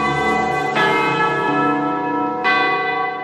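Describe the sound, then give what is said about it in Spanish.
Two loud bell strikes from a clock tower, rich with ringing overtones, the second coming about two seconds after the first while the hum of the previous strike lingers. “Los encuentros podían hacerse al momento de las campanadas.”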